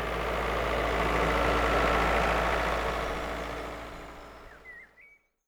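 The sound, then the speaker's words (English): A farm tractor engine, used by farmers to plant wheat seeds in fields, rumbles steadily and loudly, a constant low diesel drone that gradually fades and cuts out just before the end. “Some farmers use a tractor.”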